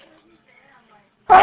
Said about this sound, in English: Oh my, bless you.